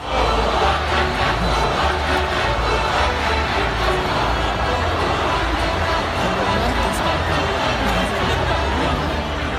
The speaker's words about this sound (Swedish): Här hörde vi hela 10 000 människor hoppa och sjunga som små grodor när det sattes världsrekord i Leksand 2019. Väldigt besynnerlig tradition det här med midsommardans runt stången när man tänker på det.